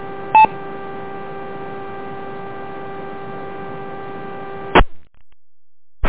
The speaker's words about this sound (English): I did get interference from Rochester